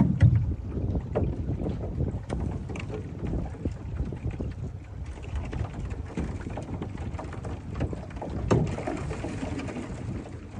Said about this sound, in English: So some of my favorite sounds that I hear are the aluminum boat, and then you hear little pieces of ice just hitting against the boat, and you hear the water.